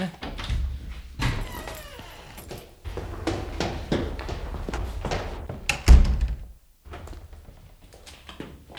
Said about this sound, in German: Nachdem Bob im Erdgeschoss des Gäste-WC betreten hatte, vernahm er hinter der Tür plötzlich Schritte und erstarrte